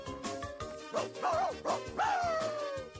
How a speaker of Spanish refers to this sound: Esta es una misión para Pluto, el perro de rescate.